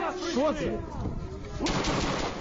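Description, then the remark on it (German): Gunshots crackle through a dense, noisy wartime street scene filmed in a Ukrainian city, with people in the street crying out faintly beneath the clatter and a sharper burst of fire breaking in near the end. “Menschen stehen auf der Straße, hören von überall Schüsse und wissen nicht, wohin sie sich retten sollen.”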